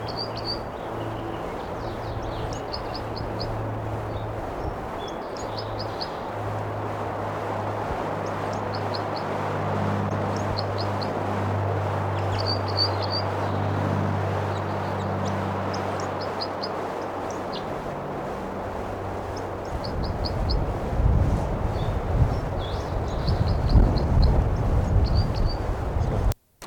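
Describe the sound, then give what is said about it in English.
A bird being recorded, not responding to playback, repeats short, high-pitched chirping calls in little clusters over a steady hiss and a low engine-like drone, with a louder rumble building toward the end. “Recording that bird's not responding to playback.”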